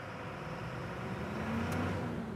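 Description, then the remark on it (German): A fire truck's engine is started and rumbles loudly at idle, a steady low drone that swells slightly as it revs partway through, with no voices present. “Okay, jetzt starten wir den Motor.”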